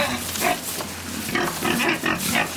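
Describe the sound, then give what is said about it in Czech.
A pig on a farm grunts and snorts in a series of short, rough bursts with brief pauses between them, fairly loud and coarse, with no talking over it. “Milé prase, jak jistě víš, vyšetřujeme na vaší farmě krádež pneumatiky.”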